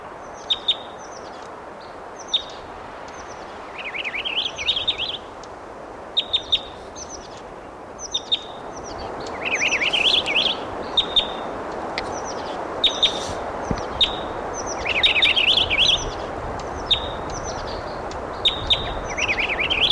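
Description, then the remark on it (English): A male purple finch sings repeated bright warbling phrases over steady wind noise in a pine-oak forest on a ridge, with a few sharp higher chips scattered throughout; the bird sounds clear above the rushing background. “This is a purple finch.”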